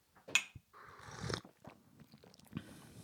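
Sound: slurping tea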